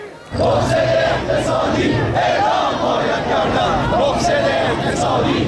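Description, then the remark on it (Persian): A large crowd at a protest rally in Kermanshah, Iran, chants loudly in unison, rhythmic shouted phrases repeating over a dense roar of voices that starts abruptly and stays intense throughout. “بنابر تصاویر و ویدیوهایی که در شبکه‌های اجتماعی منتشر شده، روز جمعه در پی برگزاری تجمع اعتراضی در شهر کرمانشاه، ماموران امنیتی با استفاده از گاز اشک‌آور و خودروی آب‌پاش معترضان را پراکنده کردند.”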